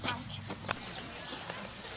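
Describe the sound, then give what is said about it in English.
A few heavy hoof clops from a large female draft horse, a kind used for pulling wagons, sleighs or logs rather than for riding, spaced irregularly over steady outdoor background noise rather than a steady trotting rhythm. “So this is not the kind of horse that we would ride.”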